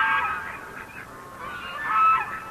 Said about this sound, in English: 2,000 miles away from the traffic and pollution of Beijing, geese and ducks splash in a frigid mountain lake.